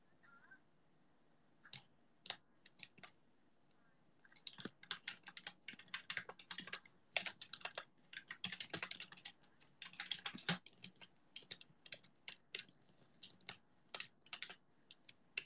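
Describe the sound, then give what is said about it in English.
Crisp computer keyboard typing for ASMR, with irregular bursts of clicking keystrokes, sparse at first and then rapid and dense after a few seconds, with no voices. “Keyboard ASMR.”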